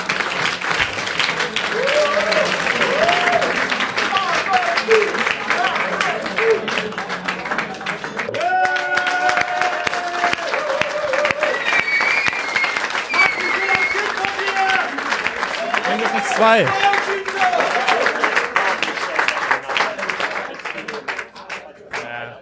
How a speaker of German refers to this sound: Aber zunächst bitte ich erstmal schon mal für einen tosenden Applaus für die beiden und wir sehen uns in einer Viertelstunde.